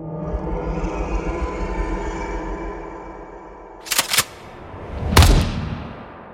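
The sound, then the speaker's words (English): Over a low, rumbling background, two quick sharp cracks ring out, followed moments later by a single loud gunshot across an attic that fades with a short echoing tail. “A shot rang out across the attic as an explosion of blood erupted from the harpy's right knee.”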